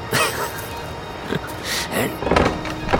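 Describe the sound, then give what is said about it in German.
Rough scraping and rattling of a door being forced open with a crowbar, with several harsh metallic bursts and creaks spread across a few seconds, the loudest strain coming near the end. “Die Tür muss erst noch gebaut werden, die mir widersteht. Na bitte, hereinspaziert, Monsieur.”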